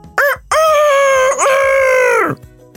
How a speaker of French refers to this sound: Donc Coquelicot, c'est un coq qui habite en Dordogne, dans le sud-ouest de la France. Et comme tous les coqs, il y a un truc qu'il adore faire. C'est chanter à tue-tête.